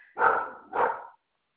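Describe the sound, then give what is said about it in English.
A dog barks twice in quick succession, two loud woofs with a brief gap between them, and no one is talking. “I'll stick my dog on you.”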